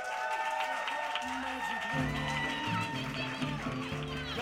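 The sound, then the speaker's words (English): Steady audience applause at a live storytelling show, as one storyteller finishes and the final storyteller of the night is introduced, fills the whole clip, a dense patter of clapping with upbeat music playing underneath and a bass line entering partway through. “Keep your applause going for your final storyteller of the night.”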